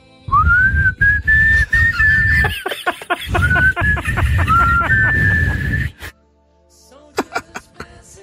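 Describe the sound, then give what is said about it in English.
A person whistles a sustained, wavering tune for several seconds, loud, with breathy laughter and snickering bursts mixed in, then the whistling stops and a few short chuckles follow. “Can we do whistling for that long?”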